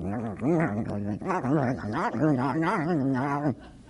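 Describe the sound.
A person imitates a dog worrying a bone with a fairly loud stream of growly, whining vocal noises that rise and fall for about three seconds, no words spoken.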